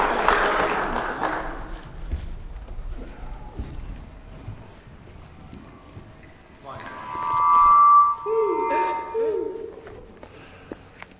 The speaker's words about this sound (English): Amen. Let's give him a clap.